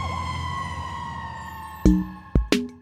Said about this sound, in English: So while a fire truck might look red, the siren noise it makes might seem so green that the person thinks of fire trucks as being more green than red.